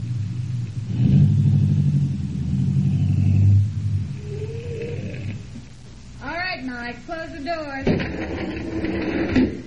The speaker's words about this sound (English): Then, a few miles south of Detroit, Greco directed me to turn into a small and decrepit wayside garage called Mike's Place. We'll drive right inside.